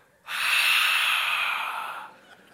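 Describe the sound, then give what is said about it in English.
A person imitates a man breathing on people's faces in a prayer circle: a single forceful breath, a loud, breathy exhale lasting nearly two seconds before trailing off, with no talking. “and again, and he goes around the entire circle and he just breathes on all of our faces.”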